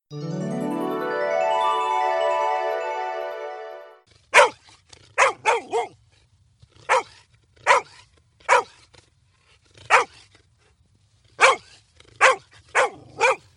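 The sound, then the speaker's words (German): A dog lets out a long, rising whimpering whine for several seconds, then barks about a dozen times in sharp, irregular bursts, fairly loud, with no one talking. “Oh nein, ein Hundebuch.”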